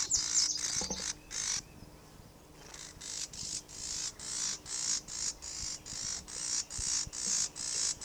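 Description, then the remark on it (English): A female bird, one of a pair near a nest, gives a steady series of harsh, buzzy calls, about a dozen short rasping bursts in a regular rhythm, clear with no talking. “That could be the female that's buzzing.”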